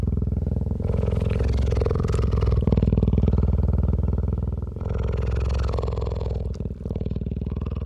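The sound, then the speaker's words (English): A deep, rumbling purr from a big cat resting beneath a tree, recorded close-up with a microphone boom lowered to about 3 feet from its head, steady and loud with a low rhythmic throb, pausing briefly for a breath midway before resuming. “And then I recorded this remarkable close-up purring sound, which wasn't even audible where we were 10, 12 yards away.”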